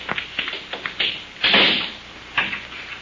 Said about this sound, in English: Come, Keto. Lock the door.